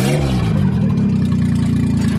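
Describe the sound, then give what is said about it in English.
A three-cylinder engine from a Geo car runs, its steady low throb rising briefly as it revs, then idling evenly before cutting off at the end. “Hey, we have a running engine here.”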